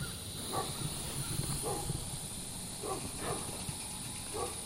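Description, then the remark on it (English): A dog in the countryside barks several times, faint, short yelps spaced irregularly over a steady rumble of engine or wind noise. No one speaks. “Yeah, the dogs are always barking, aren't they?”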